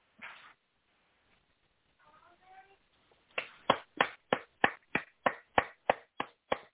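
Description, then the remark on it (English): A person claps for someone: a steady run of about a dozen sharp hand claps, loud and evenly spaced, following a brief burst of noise and a faint, short vocal sound. “That was me clapping for you.”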